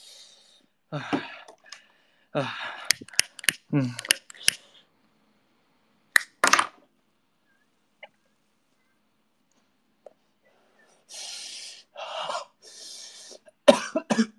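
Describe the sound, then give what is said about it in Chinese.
A harsh coughing fit after smoking too fast: clusters of rough, throaty coughs broken by short pauses, with gasping breaths between bursts and a final few hacking coughs near the end. “抽太急了，抢到了，抢到了！”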